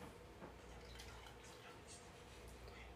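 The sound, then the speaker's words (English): Freshly made coffee from a coffee machine is poured into a cup in a steady, continuous stream of trickling and splashing that holds an even level for about three seconds over a low background hum. “I'm going to pour some into this cup.”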